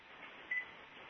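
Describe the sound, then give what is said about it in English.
A single short, high electronic beep sounds partway through as the PLA is bridged into a phone call, rising briefly above a steady background hiss of a phone line. “right, we'll hear a beep.”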